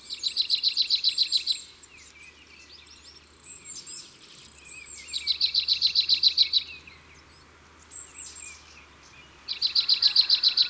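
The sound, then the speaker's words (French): A marsh tit calling: three bursts of quick, evenly repeated high notes, with softer scattered chirps between bursts and a faint low hum underneath throughout. “La mésange nonnette, c'est tié tié tié tié.”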